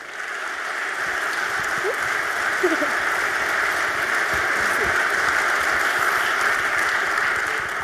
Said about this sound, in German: begrüßt mit einem warmen Applaus Anja Reuß und Lea Beckmann